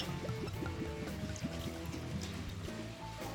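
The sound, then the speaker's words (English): 115-proof Scotch whisky pours steadily into a small glass bearing the Dalmore logo for a few seconds, a continuous splashing trickle with gurgling glugs that shift in pitch, fairly loud and without any talking over it. “I'm going to short that pour just a little bit, and I can add more to it later if need be.”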